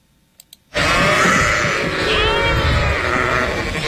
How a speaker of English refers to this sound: Yes, that is a flock of sheep. They're grazing on fields of grass.